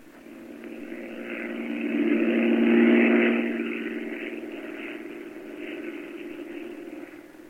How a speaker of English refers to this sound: I can't stand listening to that plane up there circling the airport. Knight's been circling Bellefonte now for 30 minutes.